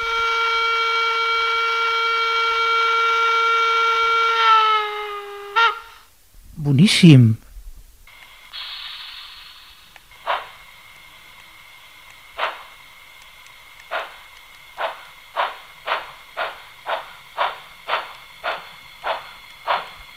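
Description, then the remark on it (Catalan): A model train being demonstrated in a shop blows its whistle, a steady, bright tone for several seconds. After a brief spoken word, the engine runs with rhythmic chuffing that speeds up under a faint sustained hum. “m'agradaria escoltar el so d'algun d'aquests trens que tens a la botiga.”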